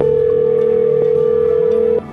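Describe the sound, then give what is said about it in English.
A steady, continuous telephone dial tone hums at an even loudness for about two seconds as a call is placed, then cuts off abruptly. No voices are heard. “so now it's time for us to get her on the phone.”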